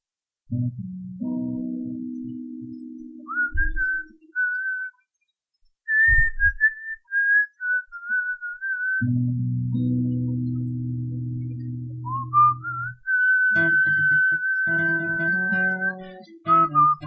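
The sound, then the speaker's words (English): A person whistles a melodic tune on key, the clear pitched notes gliding between phrases over a low sustained accompaniment, with a brief pause midway before the melody resumes. “Hey, I can whistle on key.”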